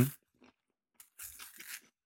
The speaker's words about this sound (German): Ich ziehe gerade die Banane aus und jetzt esse ich die.